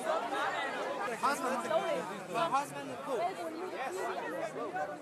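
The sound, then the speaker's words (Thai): A large crowd of migrants waiting for a train to Vienna, Austria murmurs and chatters continuously, many overlapping voices forming a steady babble with no single speaker standing out, the level staying fairly even throughout. “ครับนั่นเป็นเสียงผู้อพยพที่กำลังรอรถไฟเที่ยวที่จะเดินทางไปที่กรุงเวียนนาประเทศออสเตรียนะครับ”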